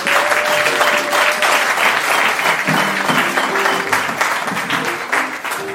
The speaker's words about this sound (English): You can clap hands for the brothers.